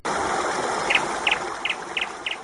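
A small bird chirps five times in quick, evenly spaced double notes, fairly faint against a steady hiss of rushing background noise.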